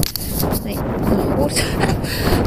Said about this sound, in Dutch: Veel wind, hè.